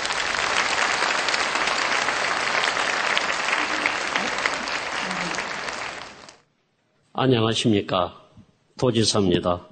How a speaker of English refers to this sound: First, we are deeply grateful to welcome the Governor of Jeju Special Self-Governing Province, the Honorable Mr. Kim Tae-hwan. Please welcome him with your warmest applause.